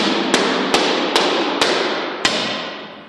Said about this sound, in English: He throws the panels on the floor and starts hammering them into place.